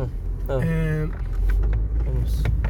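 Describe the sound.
Steady low rumble of a moving car heard from inside the cabin, a constant drone beneath brief voices talking over it.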